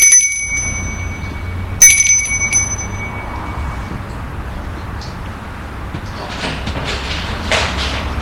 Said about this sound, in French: Il sonne à la porte de la maison.